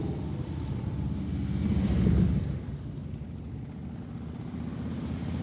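A steady rumble of hundreds of motorcycle engines in a funeral procession rolls past, swelling louder for a moment as bikes draw near, then settling back into a continuous low drone from the passing line.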